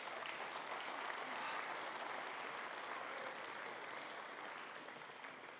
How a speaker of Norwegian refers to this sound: Det vært en stor applaus.